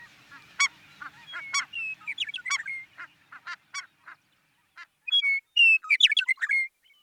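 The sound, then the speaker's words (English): A busy chorus of snow geese honking, with many overlapping nasal calls in quick, irregular, loud bursts, with brief pauses between flurries. “I really can't think of anything more hopeful than to go outside and hear the call of a sandhill crane or a snow goose on a clear October morning.”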